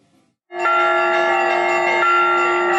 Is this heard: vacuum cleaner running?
no